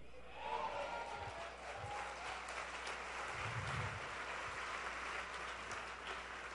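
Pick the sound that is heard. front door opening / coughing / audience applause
audience applause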